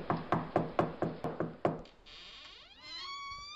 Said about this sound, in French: Essayons donc de frapper. Peut-être cette porte vitrée me sortira-t-elle d'affaire.